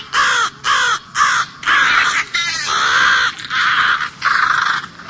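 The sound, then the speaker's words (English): Crows caw loudly in a rapid, repeating series of harsh calls, with several overlapping voices creating an agitated, nearly continuous chorus. “To protect their young, adult crows dive bomb people, cats, and other birds or animals.”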